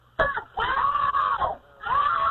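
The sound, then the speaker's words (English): Several loud, strained screams from a group of people in three long bursts with short breaks between, voices shrill, desperate-sounding shouts calling for help. “I want all you guys to scream. Scream? Call for help, guys.”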